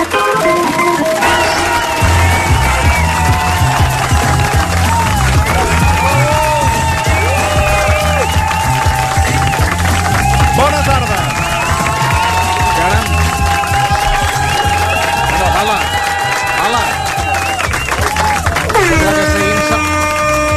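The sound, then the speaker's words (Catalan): A crowd cheers and applauds loudly and continuously for about twenty seconds, welcoming radio presenter Toni Clapés, with dense clapping mixed with whoops and shouting voices rising and falling throughout. “Exacte, sí, sí, mira, deixa'm, jo el celebraré, però amb doble aplaudiment.”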